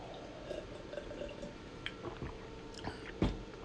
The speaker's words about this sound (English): And I'll grab another quick sip.